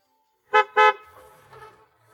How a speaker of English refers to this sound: The yellow garbage truck has taken the trash from the yellow container.